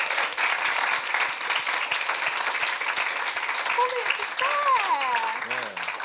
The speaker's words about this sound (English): Guys, round of applause for